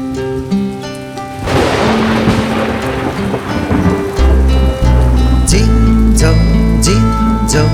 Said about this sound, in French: C'est l'orage qui tonne dans le ciel irisé.